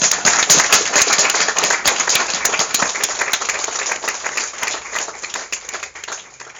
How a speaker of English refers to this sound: Just join me in another round of applause, please. Thanks.